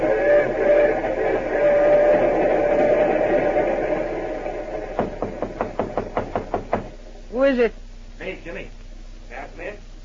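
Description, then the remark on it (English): A quick run of about ten sharp, evenly spaced knocks on a train compartment door rises over a steady background hum, and a voice speaks just after the knocking stops. “sure, the door's not locked.”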